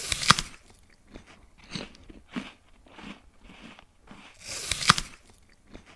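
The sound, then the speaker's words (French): Two loud, crisp crunches of biting into an apple, with softer wet chewing sounds in between. No voices are present. “Les bruits très répétitifs, comme les stylos ou les gens qui vont peut-être parfois se taper sur la cuisse ou les croquages de pommes, c'est quelque chose aussi que je n'apprécie pas du tout, qui me met hors de moi.”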